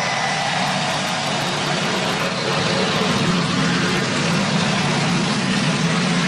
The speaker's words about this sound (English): Daytona International Speedway, we love our country, and it's truly an honor to be with all of you at the Great American Race. Gentlemen, start your engines.